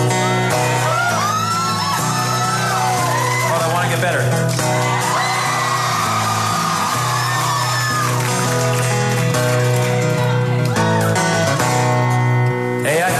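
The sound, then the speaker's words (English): A concert crowd shouts and cheers along with a loud live band for the whole stretch. Voices sing lyrics over the dense, steady music. “And we got to spend the last 3 years shouting it together.”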